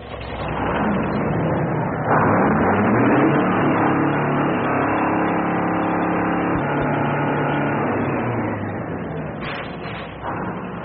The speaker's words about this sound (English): Well, that sounds like the big truck bringing the piano.